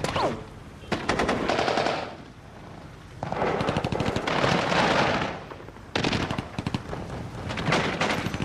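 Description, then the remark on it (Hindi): Rapid automatic gunfire rattles out in three long, loud bursts, each a dense stream of sharp shots, with brief lulls between them and no voices. “यहां सिर्फ गोलियां बोलती हैं, आदमी खड़े रहते हैं ताकि गोलियां गुजर जाएं।”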